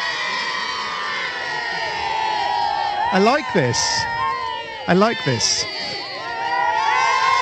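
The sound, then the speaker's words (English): A crowd of schoolchildren practicing cheering for the Duchess outside a mansion on a royal visit cheers continuously in high, excited voices, with two louder rising whoops standing out midway and a short spoken phrase repeated over the din. “mansion where the Duchess is going to come past, and there's a group of school children who have been practicing their cheering.”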